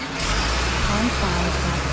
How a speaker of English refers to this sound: Maybe you have a little traffic in your video that you're producing.